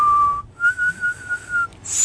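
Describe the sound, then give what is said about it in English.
A shrill street-style call whistle, used by people to call each other in the street: a short steady note, a brief break, then a longer held note with a slight wobble, ending in a quick high squeak. No one talks over it. “Ay, yung alam ko yung Jeje whistle”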